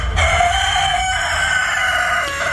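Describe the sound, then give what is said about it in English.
A rooster crows one long, loud, drawn-out cock-a-doodle-doo at Prickle Farm Poultry near Wagga, a farm breeding and showing chickens, its strained harmonic call holding steady over low background rumble. “runs Prickle Farm Poultry near Wagga, breeding and showing chickens.”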